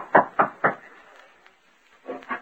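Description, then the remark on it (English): Three firm, evenly spaced knocks on the wooden door of Jim Flood's home, rapped by Riggs in a radio drama. After a short quiet pause, a softer pair of knocks or thuds follows. “We hear him as he raps on the door of Jim's home.”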